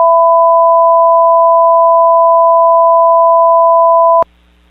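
A loud, steady activation tone of Skywarn's radio broadcast alert system, two high pitches sounding together without a break for about four seconds, then cutting off sharply with a click and leaving a faint hum.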